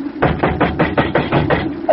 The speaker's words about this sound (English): Open up, landlord! Open up! Oh, this is a fine time to knock. It's late.